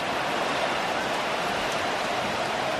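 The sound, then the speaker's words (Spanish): Hail pours down on a football pitch during a match in Madrid, a steady, dense hiss, a continuous wash of tiny impacts that stays even in loudness throughout, with no voices heard. “Un granizo. Lo que está cayendo en estos momentos.”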